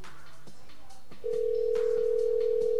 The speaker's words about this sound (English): So we're gonna go ahead and call her, see if we can get on the phone. See if she gonna answer. All right. Hopefully she answers.